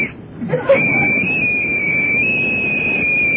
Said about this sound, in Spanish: ¿Puede repetir un último silbato, por favor? Más fluido.